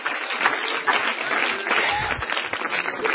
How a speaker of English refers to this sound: Let's clap our hands, everybody. Hallelujah.